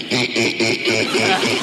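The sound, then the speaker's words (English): An 11-year-old girl imitates a duck at an audition, giving a quick series of nasal, buzzy quacks in a steady rhythm, loud with no other talking. “My duck.”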